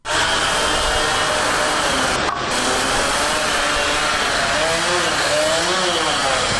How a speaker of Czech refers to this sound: Zvuci mešalica, bušilica i čekića koji se prelamaju sa zvucima motora automobila svakodnevna su slika centra Novog Pazara, gde je, po našoj proceni, oko 20 radnika već završilo grube radove do gradnje Fakulteta za islamske studije